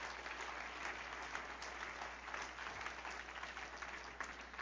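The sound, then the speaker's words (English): An audience at a church service claps steadily as a clap offering to the Lord, a dense, sustained wash of many hands applauding together with no break, fairly even in loudness throughout. “Give Lord a good clap offering.”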